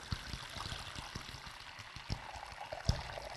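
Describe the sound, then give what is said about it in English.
Water is poured steadily into a basin for a baptism, a continuous splashing trickle with a few brief louder splashes, moderately quiet, with no voices. “I've told you this before, and some of you may be hearing this anew, but I find it absolutely wonderful that we use the element of water for baptism.”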